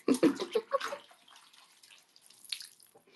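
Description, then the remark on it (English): Low water sloshes and splashes in a bathtub, a quick cluster of distinct plops and swishes in the first second, then fading into soft trickles and drips. “And there is still, in fact, water in here. It's just pretty low at this point.”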